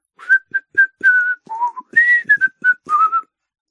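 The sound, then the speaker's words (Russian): A boy striding along a street whistles loudly and unsteadily, a string of short, breathy, wavering notes with uneven pitch and rhythm, alone, sounding untrained and clumsy. “зашагал широко и независимо, и от радостных чувств засвистел неумело, но громко.”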